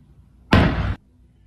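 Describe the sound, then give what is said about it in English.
A shot and a small explosion outside a house during a pre-dawn FBI raid in Provo: one loud, harsh blast bursts out suddenly for about half a second over a faint low rumble, then cuts off sharply into quiet. No one speaks. “There you hear a shot at the end, but there's also this little explosion outside the house, which is mysterious.”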